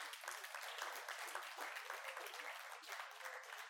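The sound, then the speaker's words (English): Sustained applause from a crowd, a dense, steady wash of many hands clapping at once, fairly loud and even throughout with no voices standing out. “Can you give the Lord a clap of him, please?”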